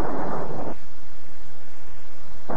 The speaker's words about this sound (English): then let's get inside out of this here storm.